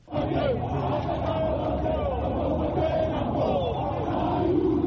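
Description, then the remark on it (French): A large crowd of supporters in Kinshasa roars and chants continuously, welcoming Martin Fayulu's arrival at Kinshasa international airport, a dense wall of cheering voices and shouts sustained at steady high volume throughout, with occasional rising calls standing out above the din. “Malgré le retrait de Félix Tshisekedi et de Vital Kamerhe de cette coalition, les Kinois lui ont réservé un accueil chaleureux.”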